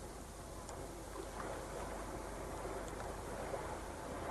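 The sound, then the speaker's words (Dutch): A steady, low roar of distant sea surf fills the background, a continuous rushing wash with gentle swells and a breath of wind, no voices present. “Dat is de zee die je hoort.”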